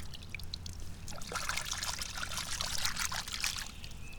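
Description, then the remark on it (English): Water runs and splashes steadily for a few seconds, a bright trickling pour growing slightly busier as a pink Callaway golf ball is rinsed under the flow. No one speaks. “Gonna rinse it off in the water here.”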